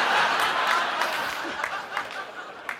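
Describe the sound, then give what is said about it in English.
A studio audience applauds steadily for a few seconds, a dense wash of clapping with some scattered laughter and murmuring mixed in, gradually thinning toward the end. “Are you from Indiana? Is that why you're applauding?”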